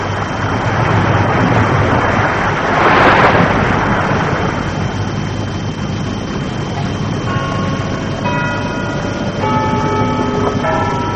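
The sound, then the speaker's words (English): Faint, distant chimes of the church clock in Ponybrook ring out in a slow sequence of bell strokes over a steady wash of wind-like outdoor noise, starting partway through. “Carries a long way, that chime.”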